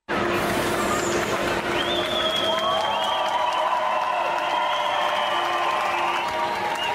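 Residents of Munich applaud steadily and cheer for several seconds as refugees arrive by train at the station, dense clapping with whistles and a few raised voices rising over a noisy background.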